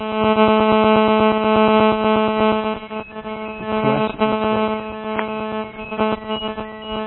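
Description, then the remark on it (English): A cell phone rings steadily for several seconds, a loud buzzy electronic tone with dense, evenly stacked harmonics and rapid pulsing, briefly wavering midway but with no voices. “And this is my cell phone going off.”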